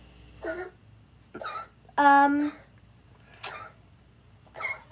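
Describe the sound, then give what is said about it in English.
A cat retches and gags in five short, spaced-out heaves, one of them a loud, strained, tonal yowl, with quiet pauses in between and no talking. “Well, it might not be a great time, but I think my cat's throwing up.”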